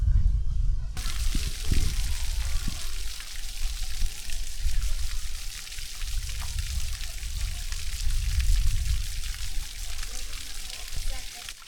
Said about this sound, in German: Das war das Geräusch von dem Wasser.